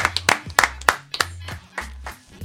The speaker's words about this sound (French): Allez, on s'applaudit.